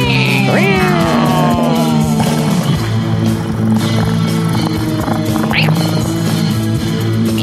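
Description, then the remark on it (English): A cat lets out a drawn-out, rising meow near the start and a shorter, fainter one later, both over a steady, loud mechanical drone that runs throughout. “All cats all the time.”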